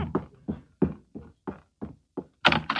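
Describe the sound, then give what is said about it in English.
The postman knocks on a front door: a steady series of about nine dull knocks, evenly spaced, with the final two raps louder and sharper. No one speaks. “Oh, my, there's the door.”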